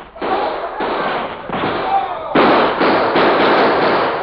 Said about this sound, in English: There was a quick exchange of gunfire.